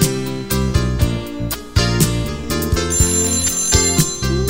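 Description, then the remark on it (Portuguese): A telephone rings with a bright electronic ringtone melody, loud, its repeating tones pulsing over a steady rhythmic beat with no voices. “Você tiver um problema e não achar a solução, telefone para o céu e o nosso Pai responde a oração.”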